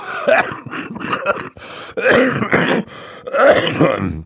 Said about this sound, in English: Mr. Poe opened his mouth to say something, but erupted into a brief fit of coughing.